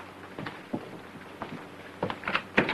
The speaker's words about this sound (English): walks over to the employee lounge and opens the door.